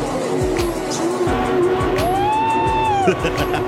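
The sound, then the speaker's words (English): Three small electric jet boats bought from Temu whine across the water, going under tree stumps, a steady high-pitched motor tone that swells and bends upward before cutting off, over a continuous rushing background. “We bought three mini electric jet boats from Temu.”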